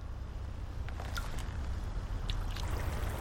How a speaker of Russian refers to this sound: Пройдя 300 метров, я возвращаюсь к плотине помыть руки в воде. В частности, потому что забыл, помыл я их или нет.